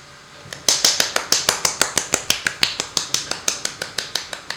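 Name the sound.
one hand clapping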